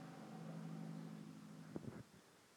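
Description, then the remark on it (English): A truck passing outside drones with a low, steady rumble and humming tones, then a couple of short knocks sound before the noise drops away quickly. Fairly quiet, with no voices. “I'm just annoyed by the truck sounds and I'm trying to,”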